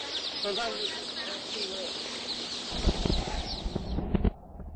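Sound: chicks peeping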